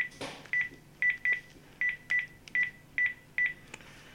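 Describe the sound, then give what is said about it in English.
A landline keypad dials a mobile number to call an iPhone 8 Plus and a Series 3 watch: eight short, evenly paced tone beeps in quick succession, clear, after a brief rustle at the start. No one speaks. “So I'm just going to get my landline, put in my mobile number.”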